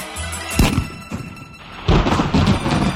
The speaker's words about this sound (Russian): Вывел во двор и велел стрелять, кто куда попадет. Первый сын выстрелил.